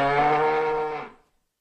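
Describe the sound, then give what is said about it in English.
A young cow about to drop her calf lets out one long, low moo, rich and steady in pitch, holding for about a second before trailing off into silence. No voices are heard. “Nothing wrong with that young beast. She's about to drop her calf, that's all.”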